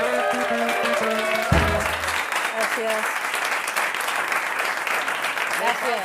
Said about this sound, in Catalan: Vinga. Que te la presentem. Un aplaudiment per l'…!